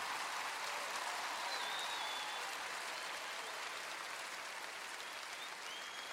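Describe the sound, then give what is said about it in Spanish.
A crowd in Honduras applauds Honduran musicians steadily for several seconds, a dense, even wash of clapping hands that holds at a constant level throughout with no voices on top. “Fuerte ese aplauso.”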